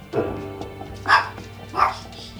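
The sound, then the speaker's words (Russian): A dog barks three times at a steady, unhurried pace, each bark short, with quiet background between them. “Собака подтверждает.”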